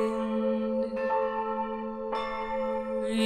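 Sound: church bells ringing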